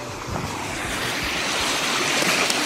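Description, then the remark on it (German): A small waterfall rushes steadily into a stream, a dense, continuous hiss and churn of water that stays fairly loud throughout, with no voices. “Das, meine Damen und Herren, nennt ihr einen Wasserfall.”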